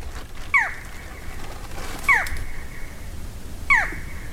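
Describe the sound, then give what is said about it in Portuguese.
A barred forest falcon calls three times on a trail, each a sharp, slightly falling note spaced about a second and a half apart, clear over a low, steady background rumble. “Falcão Caburé. Lindão demais.”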